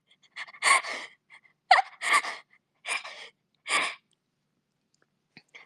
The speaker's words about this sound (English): What do you call it? It's the teat whistle. It's the whistle from the... That sounds so sus. It's the teat whistle. Yeah, it's the teat whistle.